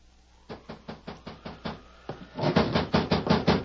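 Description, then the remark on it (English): A knock at a door one night in the middle of a rainstorm: a rapid run of sharp knocks, about ten evenly spaced raps, then a louder, more insistent burst of pounding that keeps going to the end. No voices are heard. “Then one night, right in the middle of a rainstorm, there came a knock at the door.”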